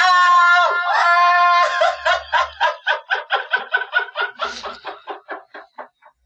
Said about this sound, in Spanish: Pero lo extraño es que no se ve por ninguna parte. Solo escuchan el grito agudo. En verdad, es el chillido del pajarraco de la selva.